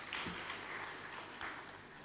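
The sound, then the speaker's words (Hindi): An audience in an auditorium claps steadily for about two seconds for a man who has just received a National Award. The applause is a dense, even patter of many hands with a couple of brief swells and no voices over it. “और अभी आपको नेशनल अवार्ड मिला है, आपके लिए एक बार तालियां बनती हैं।”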